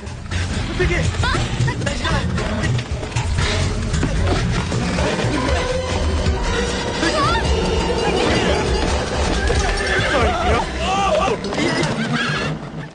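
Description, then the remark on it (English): Horses whinny and neigh amid a loud, crowded commotion in a movie scene with a carriage, with hooves clattering and indistinct voices shouting throughout, everything dense without a quiet moment. “Just for that specific scene, I was wondering, I know there was a scene in that movie where there's horses and stuff like that, and he's on a carriage.”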